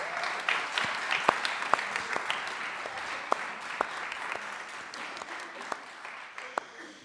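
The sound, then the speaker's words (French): Audience applause for a performance by young people and allophone audiences fills the whole stretch, a dense, steady wash of many hands clapping with a few sharper individual claps popping out above it, moderately loud throughout. “Vous qui êtes dans le public, tout ce que vous venez d'entendre, les jeunes et les publics allophones l'ont appris en moins d'une heure, donc vous pouvez applaudir cette prestation que vous venez d'entendre, s'il vous plaît.”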